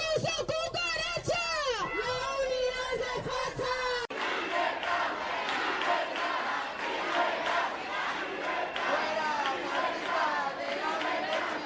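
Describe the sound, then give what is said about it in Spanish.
A loud crowd of supporters and opponents of Isabel Díaz Ayuso shouts slogans outside a Madrid university's Information Sciences faculty after an award ceremony for her, in overlapping rhythmic chants, voices rising and clashing continuously, with a brief sharp cut partway through and dense shouting throughout. “Gritos y consignas entre partidarios y detractores que han subido de tono y bastante cuando ha terminado el acto.”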